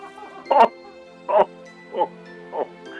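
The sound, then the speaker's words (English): Dogs bark four times at a steady, unhurried pace, each bark short and fairly loud, set against a faint continuous background hum. “Also, if my dogs bark at you, don't worry, they are friends.”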